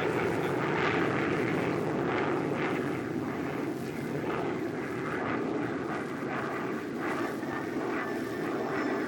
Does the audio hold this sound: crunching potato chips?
no